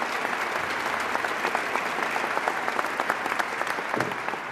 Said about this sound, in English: Give him a big round of applause, please.